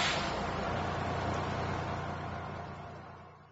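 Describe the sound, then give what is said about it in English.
A bus arrives with a steady, broad engine roar and hiss, fairly loud, gradually easing off toward the end as it slows. No one speaks. “Here comes the bus. Let's get on the bus.”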